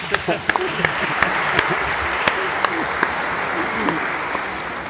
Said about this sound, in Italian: Oggi accoglie noi per questo incontro di catechisti e ci saluta e lo ringraziamo con un applauso.